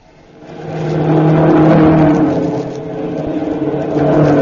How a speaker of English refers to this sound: It's Memorial Day, 1911. The grounds of the Indianapolis Motor Speedway echo the sounds of roaring racing cars.